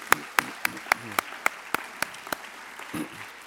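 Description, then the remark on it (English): Applause at a foundation's anniversary event, with about ten sharp, evenly spaced claps standing out in a steady rhythm, over a faint murmur of voices, then trailing off into a softer rustle at the end. “and for that we applaud you and thank you endlessly.”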